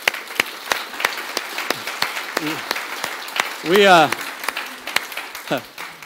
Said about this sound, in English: Go ahead and clap for them for a second.